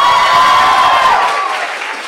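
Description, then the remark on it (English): A live audience, on the host's cue, breaks into a loud, dense round of applause with scattered cheers, the clapping steady and sustained before tapering slightly toward the end. “Give me a round of applause if there's a sale in IKEA and they're giving away meatballs.”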